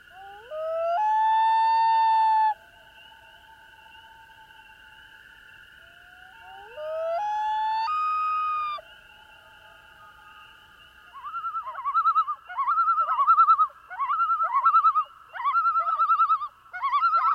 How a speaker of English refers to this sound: I heard a loon, which I heard it before I saw it, and I heard it was, we were camping, and it was by a lake, and I heard its hysterical laugh, its calls, and I had, you know, no idea.